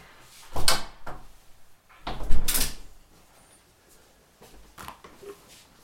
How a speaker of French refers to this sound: Je vais fermer ma porte parce qu'il y a un bruit dehors qui gêne pour l'enregistrement. Je vais fermer ma fenêtre.